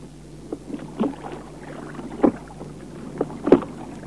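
Oars splash and dip in the water of a lake at an uneven rhythm, with soft knocks of a sandalwood boat with gold fittings drawing closer over a low steady hum. No voices.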